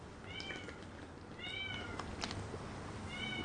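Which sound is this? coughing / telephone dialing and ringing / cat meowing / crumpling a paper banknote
cat meowing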